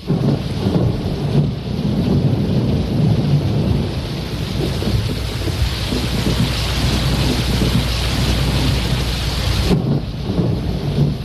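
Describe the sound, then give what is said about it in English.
Heavy, steady rain pours down while deep thunder rumbles and rolls underneath, loud, filling the whole stretch without pause and with no voices; from the 1989 Woody Allen film Crimes and Misdemeanors. “The thunder and the rain, which I love.”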